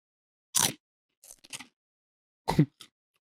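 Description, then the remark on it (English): Crunching of potato chips being eaten: two sharp, loud bites with softer chewing crackles between them, then a final faint crunch, with no talking. “The single chip smells better than the bag.”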